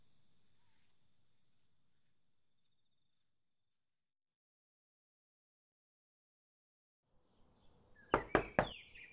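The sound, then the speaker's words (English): A few sharp, loud knocks on a door ring out, following a long stretch of near silence with a faint high insect-like hum fading early on. “Ugh, who the hell could be knocking this hour?”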